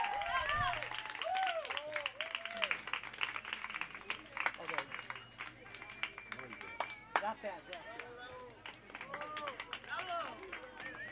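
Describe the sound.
Steady, dense applause from an audience, a continuous patter of many hands clapping that stays fairly loud throughout, with scattered voices and cheers rising over it.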